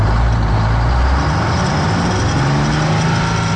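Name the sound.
garbage truck driving by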